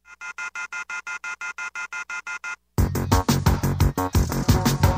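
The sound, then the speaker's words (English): A telephone rings with a rapid electronic trill of evenly spaced tonal pulses for a few seconds, then loud, dense music cuts in abruptly and takes over. “The telephone keeps ringing, so I ripped it off the wall.”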